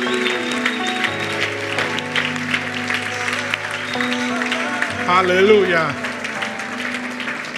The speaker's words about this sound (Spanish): Si usted lo cree, una sus manos y dele palmas.